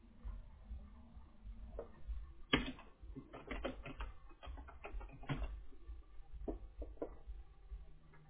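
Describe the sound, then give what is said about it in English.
Irregular bursts of clicky keystrokes on a computer keyboard, moderately loud, with a steady low hum underneath and short pauses between flurries of typing; someone typing out their name to sign as the card holder. “You just type out your name.”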